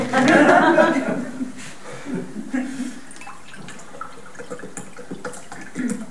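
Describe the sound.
Water is poured into a glass in a steady, gurgling trickle lasting several seconds, with a brief chuckle at the start and soft voices in the background.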